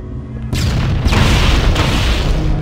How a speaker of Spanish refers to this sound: Y un detalle importante con las granadas es que la explosión de una puede detonar varias que estén en el suelo, así que tengan cuidado.